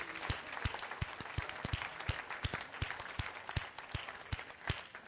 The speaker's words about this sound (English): Give them a great clap offering this morning.